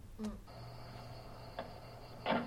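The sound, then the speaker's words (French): Cicadas chirping in a faint, steady high-pitched drone that holds without a break, with a few soft clicks and ticks scattered through it and no voices. “Ensuite, on entend les cigales.”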